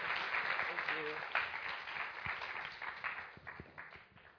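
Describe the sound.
An audience applauds in a steady, dense wash of clapping that holds fairly loud for several seconds, then thins and tapers off, with a brief voice audible in the crowd near the start.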